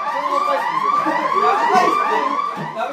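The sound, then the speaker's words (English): An attack alarm in Macross blares without pause, layered wailing tones sweeping up and down in a steady, overlapping pattern, with no voices. “I'm sorry, Renato, we're under attack. Alarm bells.”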